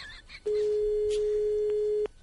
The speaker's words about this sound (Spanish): Y al momento sonó el teléfono.